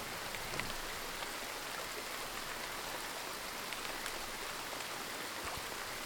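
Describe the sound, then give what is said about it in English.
Steady, dense patter of rain with scattered droplet ticks over a continuous soft hiss, even and unbroken throughout, with no talking: the ambient soundscape track The Indigo Raindrop playing from an app. “The Indigo Raindrop, because I haven't demonstrated that one yet. I'll double tap. The Indigo Raindrop playing.”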